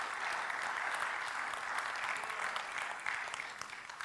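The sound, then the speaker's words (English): Steady applause from a crowd, a dense wash of clapping that holds at an even loudness for about four seconds, with no voices standing out. “That's, yeah, give applaud.”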